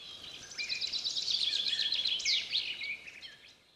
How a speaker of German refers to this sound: Hört ihr auch das Zwitschern der Vögel? Sie verstummten und lauschten dem Gesang der Vögel.